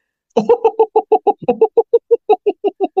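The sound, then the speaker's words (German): A human voice imitates an eagle-owl's laughing call, a quick, steady string of about sixteen short staccato hoots, fairly loud, with nothing else underneath. “Das Lachen wie ein Uhu?”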